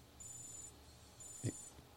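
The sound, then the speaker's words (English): A wristwatch alarm, signalling 12 o'clock, beeps in two short bursts of rapid, high-pitched chirps separated by a brief pause. The beeping is faint and thin, with a soft thump between the bursts and no voices. “Oh, what's that beeping noise? Is that your watch?”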